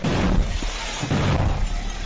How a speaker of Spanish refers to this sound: en un consejo local en Ucrania por la explosión de una granada arrojada por un concejal del partido del presidente Zelensky